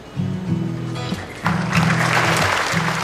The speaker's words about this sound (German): Applaus kommt auf, als der dänische Architekt Kim Herford Nielsen den riesigen goldenen Schlüssel an Thomas Bach übergibt.